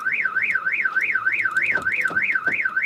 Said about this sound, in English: So we're trying to keep a low profile here in Palestine, and our car alarm just keeps going off just all the time.